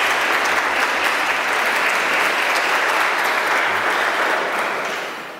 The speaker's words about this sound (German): Ihr dürft mal klatschen, obwohl ihr in der Kirche seid.